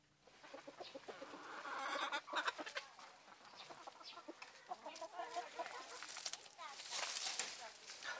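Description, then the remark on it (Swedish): Chickens cluck and chatter in the henhouse of the Statarmuseet in Torup, Svedala municipality, as a woman opens the door and throws in leaves for them: a steady, busy mix of short calls over the full stretch, with rustling and a voice briefly audible beneath. “vi står i Statarmuseets hönshus. … öppnar dörren och kastar in lite blad till hönsen som trippar omkring här”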